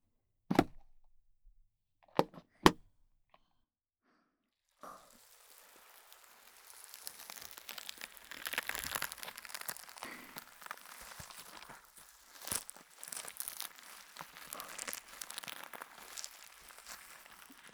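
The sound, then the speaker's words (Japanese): A few sharp isolated clicks, then a steady stretch of crackly, crunchy squishing as styrofoam-bead slime is kneaded right beside the ear, dense bursts of tiny pops swelling and fading with no talking. “今お耳のそばでくねまいしたのは発泡スチロールスライム。”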